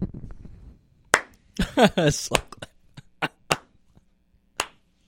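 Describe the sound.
Slow, unevenly spaced sharp claps, about eight or nine in all, with a brief murmur of voice at the start and a short vocal burst among the early claps.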